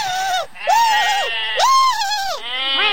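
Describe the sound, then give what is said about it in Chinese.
Several loud, wavering bleats from sheep follow one another closely, each a nasal, quavering cry with rich overtones, with only brief gaps between calls. “哦，绵羊们，拜托，这些都烧过了，怎么点得起来的？”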